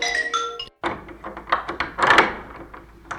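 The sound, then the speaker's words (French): A door to a room where a person waits opens: a latch clicks and clunks, then a series of knocking thuds and rattles follow as it swings, with a brief tonal creak at the start. “Et donc, j'ouvre la porte et je dois laisser dépasser mon pied chaussé d'une sandale.”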